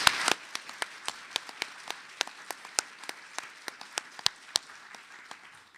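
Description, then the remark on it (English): An audience applauds to recognize NIU staff members: a steady wash of clapping runs throughout, with sharp individual claps standing out at a fairly even rhythm. It stays at a moderate level, with no voices. “And can I ask again for a round of applause to recognize?”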